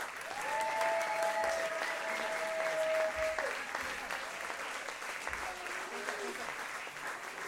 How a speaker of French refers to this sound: Merci. On voudrait les mêmes applaudissements